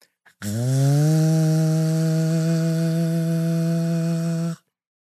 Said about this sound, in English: Leaf blower sound.